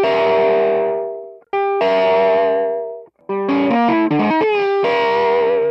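A loud, distorted electric guitar tapping riff of sustained held notes followed by a quick run of rapidly changing tapped notes, then the last tap note held and ringing out, with no talking.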